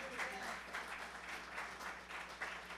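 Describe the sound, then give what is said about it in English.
An audience claps steadily in celebration during a morning sermon, a dense, sustained wash of applause, loud and continuous with no clear pauses, while faint voices murmur underneath. “But the fact that you clapped this morning, the fact that you celebrated, is an indication that you have faith.”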